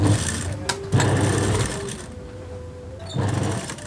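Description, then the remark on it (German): A sewing machine in Novi Pazar, southern Serbia, near the border with Kosovo, runs in steady bursts, its motor whirring with a fast mechanical chatter, pausing briefly in the middle before starting up again. “beugt sich über seine Nähmaschine in Novi Pazar im Süden Serbiens, nicht weit von der Grenze zum Kosovo entfernt.”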